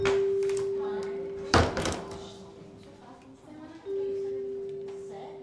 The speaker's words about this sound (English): When the door opens, he walks in.